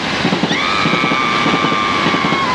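A loud, steady rumble of another train passing by, heard from aboard a train, with a rapid rhythmic chugging beat, joined after a moment by a long, high whistling squeal that holds to the end. No voices.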